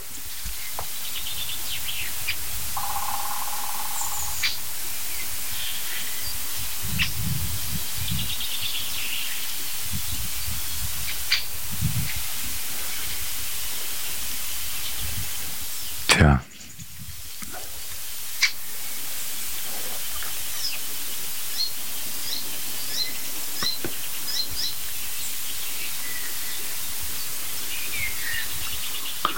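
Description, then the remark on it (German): Steady wind rushes continuously through foliage, a broad hiss with low gusty swells, while scattered bird calls, including the occasional rasping call of a jay, and brief sharp ticks come and go; one loud sudden burst cuts through midway. “Ihr hört Windrauschen.”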